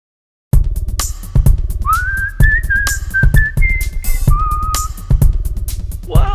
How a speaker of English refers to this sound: Whistling my troubles away.